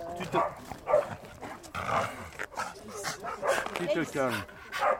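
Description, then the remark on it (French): A Staffordshire bull terrier barks and growls in repeated loud bursts, its agitated vocalizing mixed with people talking. “Donc c'est un staffy.”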